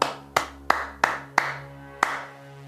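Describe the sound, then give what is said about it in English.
Six sharp hand claps in a rhythm, clapping back the rhythm of a sung phrase in the Clap It Back game: five evenly spaced, quick claps, a short pause, then one final clap, each ringing briefly over a low, steady background hum. “Your job is to clap the rhythm of everything the singer sings.”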